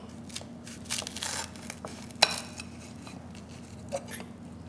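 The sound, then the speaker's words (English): A knife crunches through the crisp, brittle, chilled brulee sugar topping and crust of a pumpkin pecan pie as a slice is cut, giving a run of dry crackling snaps with one sharp crack in the middle and a few smaller crunches after, over a low steady hum. “The sound of that crust is just outlandish.”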